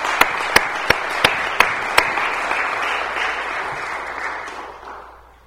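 A crowd from Chicago breaks into applause for themselves and their city, a few sharp early claps standing out before dense, steady clapping fills in and then fades away over about five seconds.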